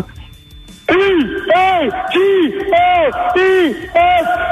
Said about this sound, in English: E-A-G-L-E-S-E-L. Now that's a great echo. That's a great chant,